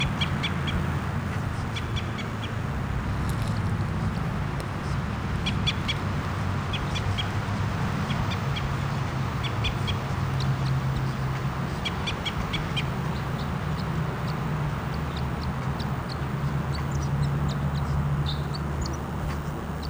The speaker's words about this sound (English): Recording, here's the bird. It's close by.